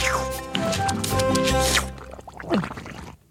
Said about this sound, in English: Such mashing and smashing by Armadillo Gourmet. The sassy salsa splashing as the musicians play.